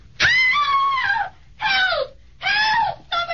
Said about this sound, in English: Hey, what's the matter? What was she screaming about, mister?